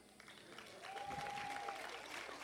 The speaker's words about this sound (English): And I would like you to applaud yourself, please. If you are 3 years or less coming to this festival, but you still like it.